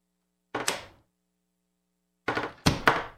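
A door thuds as someone comes into a new studio: one dull knock, a pause of over a second, then a cluster of heavier, overlapping thumps and clatter. No one speaks.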